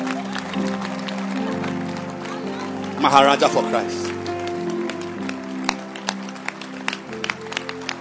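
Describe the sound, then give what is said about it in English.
A church audience claps hands in quick, uneven bursts of sharp claps that run throughout, at the preacher's call to clap, while a man's voice speaks loudly over them for a moment. “Clap your hands. I said clap.”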